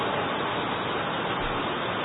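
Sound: heavy rain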